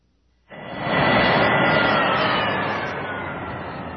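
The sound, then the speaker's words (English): A loud E-wing starfighter jet engine roar kicks in abruptly and holds steady as a broad rushing whine, then gradually eases off as Luke shuts the engines down and they begin winding down. No voices. “As soon as Luke shut down the engines, he could hear the wind howling outside.”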